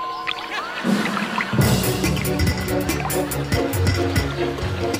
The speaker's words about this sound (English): For those listening at home, it's one of those little lizards that runs across the water.